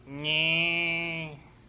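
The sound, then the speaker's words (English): A single drawn-out moo from a young calf, steady and fairly loud, lasting about a second before cutting off, with no voices. “Little calf.”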